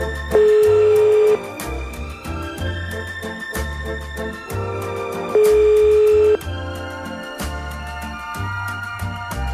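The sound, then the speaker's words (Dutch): An outgoing-call ringback tone of a phone call placed during a radio broadcast sounds twice, each steady beep lasting about a second with a few seconds' pause between, clear and fairly loud over rhythmic background music; no one speaks. “Razend benieuwd of de telefoon gaat klingelen.”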